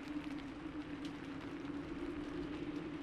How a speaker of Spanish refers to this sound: El viento y la lluvia pegando en mi casco era lo único que podía escuchar.